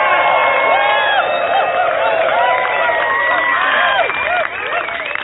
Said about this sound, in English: So, all of us have worked so hard for so many years, you need to start screaming and shouting for all the damn work you've put in to make this happen.